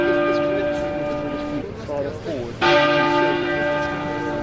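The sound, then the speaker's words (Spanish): Big Ben, the bell in the tower of the Palace of Westminster, tolls at one-minute intervals during a funeral procession with a deep, sustained hum; its ringing fades briefly under a murmuring voice, then a fresh strike rings out loud and resonant. “El féretro abandonó el templo, se dirigió hacia el arco de Wellington, en la esquina sureste de Hyde Park, mientras el Big Ben, la célebre campana de la torre del Palacio de Westminster, sonaba a intervalos en un minuto durante la procesión.”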